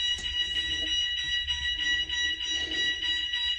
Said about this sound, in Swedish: Men det är inte tyst så länge till. Knappt 6 minuter efter att han har börjat filma, då går skolans larm igång.